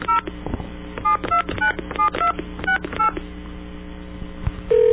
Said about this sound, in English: Somebody said that if we phone 1-800-SAY-RANT, it gives something very interesting. Let's try that.